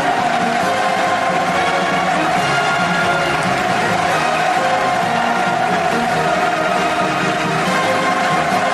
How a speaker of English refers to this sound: They were showing this video and they reenacted this, like the U.S. was being wiped out by a nuclear attack. And listen to the cheering here.